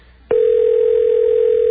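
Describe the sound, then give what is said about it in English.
A steady electronic tone comes over a telephone line after a brief click, holding one unbroken pitch like a ringback signal as a call rings at the Washington Monument at 11:23 on a Saturday night, loud and clear with no voices. “Somewhere inside the Washington Monument, a phone is ringing right now.”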